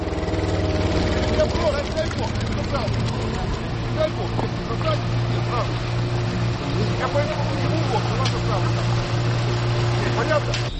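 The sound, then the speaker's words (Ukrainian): A powerful motorboat engine, on a boat steered by two young men, rumbles steadily on the water at dawn at the village of Pukhivka, Ukraine, with a low, continuous droning hum, while faint indistinct voices and other small sounds drift over it. “Ледь чути гуркіт двигуна на воді, хоча він потужний. А ось і човен, яким керують двоє молодиків.”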